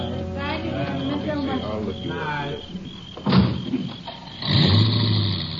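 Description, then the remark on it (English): A car door thuds shut, then an engine turns over and revs steadily as the car pulls away from a house at sundown, carrying the last of the guests, following a stretch of indistinct murmuring and background noise. “There go the last of them, Sheriff.”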